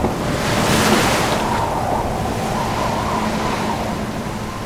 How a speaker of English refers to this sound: 50-foot waves envelop the captain. The ship trembles and groans.